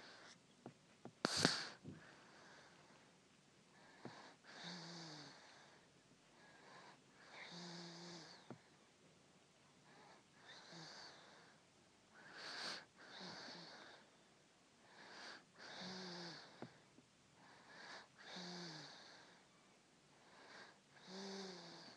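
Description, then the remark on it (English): A sleeping baby girl breathes softly and steadily, each quiet breath carrying a faint wheezy, snuffly edge, repeating every couple of seconds. “She's not really snoring now.”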